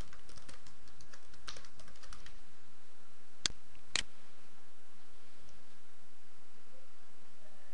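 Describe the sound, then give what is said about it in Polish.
Computer mouse clicks while clicking on the My Apps element of the devlife.com website in a browser: a patter of soft, quick clicks early on, then two sharp, crisp clicks about half a second apart over a faint steady hiss, with no voices. “Klikamy na element My Apps.”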